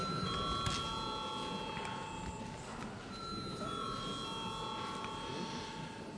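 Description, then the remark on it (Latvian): A parliament chamber bell rings continuously for several seconds before a vote on a bill, a steady, shrill electric tone over a low background murmur. “Paldies, lūdzu zvanu.”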